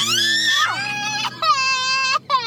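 A young girl cries in distress after a boy breaks the handle off his Easter bucket: loud, high-pitched wails broken by a couple of brief gasping pauses, with no talking.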